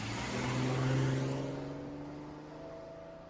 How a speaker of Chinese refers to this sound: 汽车平稳地启动了，转眼消失在马路上。